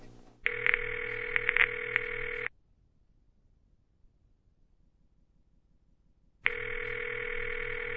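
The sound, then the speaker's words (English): An outgoing phone call to a friend: the ringback tone buzzes twice, a steady electronic ring of about two seconds, a silent gap of roughly four seconds, then the ring starts again, clear, with no voices. “Let me call my boy.”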